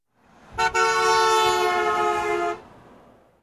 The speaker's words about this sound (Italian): È una macchina.